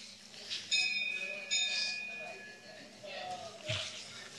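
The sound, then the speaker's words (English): A small bell rings twice in quick succession, each strike leaving a clear, bright tone that lingers briefly, with soft, indistinct room noise underneath. “the only goal to actually be obtained is the Supersoul, confirmed by the bell.”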